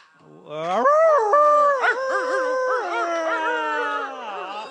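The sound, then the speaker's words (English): A human voice imitates a coyote howl: one long, loud note that swoops upward, then wavers and yips for several seconds before trailing off. “The donkey brays and the pony neighs and the old coyote.”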